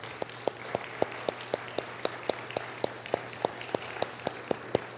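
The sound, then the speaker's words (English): A church audience applauds the worship team at the start of a service: sharp, evenly spaced claps stand out in a steady quick rhythm over a softer, continuous wash of many hands clapping. No one speaks. “Would you give them a round of applause with me?”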